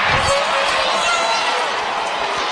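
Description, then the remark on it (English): A large stadium crowd at a football game roars and cheers in a loud, continuous wall of noise that holds steady without a break, after a 26-yard field goal attempt is blocked. No one speaks clearly over it. “Listen to this crowd go crazy.”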